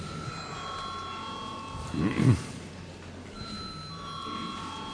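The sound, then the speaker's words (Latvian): A steady electric bell rings continuously at moderate volume in the Latvian parliament (Saeima), calling members to vote, briefly interrupted midway by a short low thump or murmur before the ringing resumes. “Paldies, lūdzu zvanu.”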